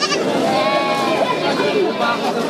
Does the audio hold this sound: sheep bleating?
yes